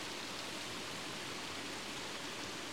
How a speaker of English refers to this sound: The water is trickling down into the pool at the bottom, separated by two waterfalls. It really is a beautiful little oasis.